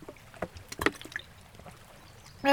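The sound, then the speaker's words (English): Water from a fridge dispenser pours and splashes in brief, uneven spurts, then a louder, steady stream with a faint mechanical whine kicks in at the very end. “God, I sure love fridge water.”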